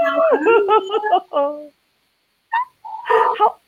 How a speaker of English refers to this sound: So the minute you came up, the dogs went nuts. Did you hear that? They love me. I think so. Mm-hmm. Yeah, that's cool. I love pups. Yeah, you just let them bark. They're all good.